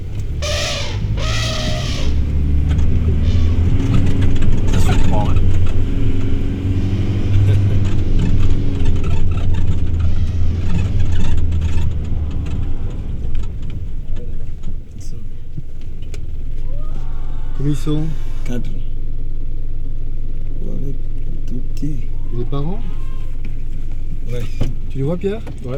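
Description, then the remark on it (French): A car engine hums steadily for the whole stretch as the car reverses, its low drone shifting pitch midway as the vehicle moves, with people talking briefly over it. “Recule, tu peux reculer. Non, quatre. Tu peux reculer à 50 mètres, ils sont des voitures.”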